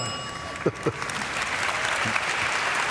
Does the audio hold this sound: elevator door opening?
no